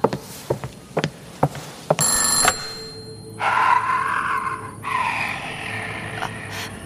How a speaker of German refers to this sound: Oh, hab ich einen Schreck bekommen. Oh, das Telefon funktioniert schon. Ich geh mal ran.